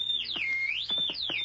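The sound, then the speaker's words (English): A loud, continuous whistle gliding down and back up in pitch, holding a high steady tone between swoops, with soft clicks or taps faintly beneath it. “The whistle!”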